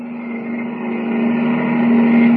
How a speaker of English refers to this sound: On the open road outside the city limits, Kent jams the accelerator down to the floorboard and grips the wheel hard. Roaring into the night, his keen eyes watch the twin taillights gleaming ahead of him.